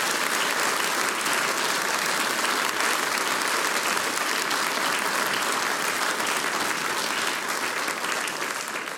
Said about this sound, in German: Und jetzt kriegt er noch einmal einen großen Applaus,